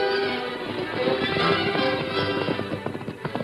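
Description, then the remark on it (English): Hooves of an exhausted horse ridden by a tired man clop at a slow, uneven walk over a busy background, growing a little more distinct toward the end as the horse arrives at a little mission between the Kansas border and Dodge City, with faint murmuring underneath. “Halfway between the border and the city, the tired man and exhausted horse came to the little mission where the Padre waited.”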